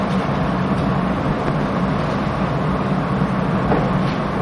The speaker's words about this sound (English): See, that's a lovely sound. Listen to the pages turning.